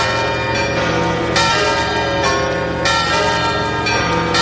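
The cathedral bells of Santiago de Compostela tolling in a dense, ringing peal, overlapping strikes about every one and a half seconds with long resonant hum between, loud, no voices.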